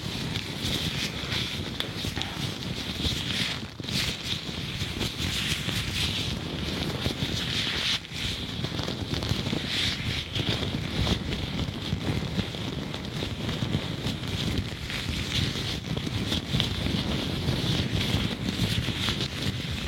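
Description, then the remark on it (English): Gloves rub and crinkle right up against the microphone in a steady, dense rustle, with occasional sharper scrunches breaking through. No one speaks. “Personnellement, les gants, ça a toujours été une de mes triggers préférées.”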